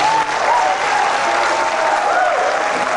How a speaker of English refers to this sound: about half the crowd cheered.